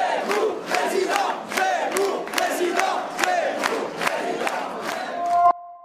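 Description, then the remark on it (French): A large crowd in a hall chants the slogan "Zemmour président" or "Zemmour second tour" in unison, voices rising and falling to a steady beat punctuated by regular sharp claps, loud and sustained before cutting off abruptly. “Et il termine avec une salle qui crie encore une fois Zemmour président ou Zemmour second tour.”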